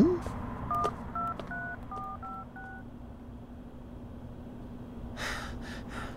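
signal or alarm, telephone number being dialed

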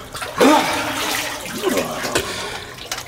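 household object, warm water being poured

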